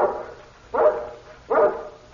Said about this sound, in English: Your dog, Mr. Karowitz? Yes. He's not usually so noisy, though.